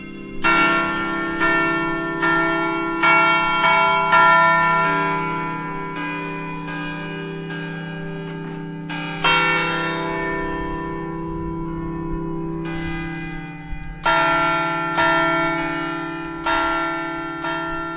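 Bells in the gardens of Fontevraud Abbey, fitted with sound louvres like those in a belfry, ring close by in a chime specially composed for Fontevraud, successive strikes every second or so over a sustained, humming resonance, with fresh clusters of notes layering in as earlier ones fade.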